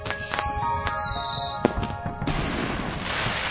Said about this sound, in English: Fireworks will light up the skies of many cities and towns this week, celebrations of Independence Day.